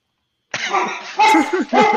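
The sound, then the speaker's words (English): The speaker's dogs bark excitedly in three loud, rough bursts in quick succession, with no talking over them. “As my dogs go wild, yeah.”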